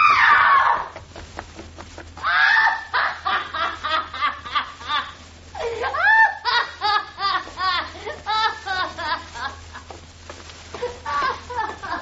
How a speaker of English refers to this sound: She screamed. A trick. She's playing a trick. Like the Ripper was at her.